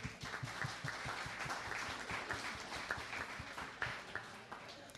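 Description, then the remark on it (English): A crowd applauds steadily for several seconds to thank VolunteerKansas.org for sponsoring Engage ICT, a dense patter of many hands clapping at once with sharper individual claps popping out, holding an even loudness throughout with no talking. “And finally, a big round of applause and thank you to VolunteerKansas.org for sponsoring Engage ICT this year.”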